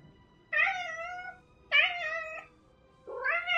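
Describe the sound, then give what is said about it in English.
A cat meows three times in close succession, each call drawn-out and loud, the last one rising in pitch and cut off at the end. No one speaks. “Animal possession. A trick. Meow.”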